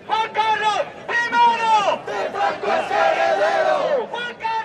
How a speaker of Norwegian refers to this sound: Juan Carlos, den første Francos arvtaker, roper en gruppe demonstranter i sentrum av Madrid.